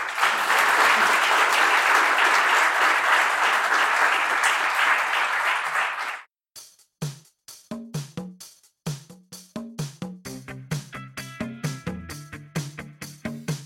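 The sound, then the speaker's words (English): An audience at DAOPRO applauds two panelists after a panel discussion, steadily for about six seconds in a dense, full burst of clapping. The clapping stops abruptly and rhythmic music with punchy beats follows. “A big round of applause for the two panelists.”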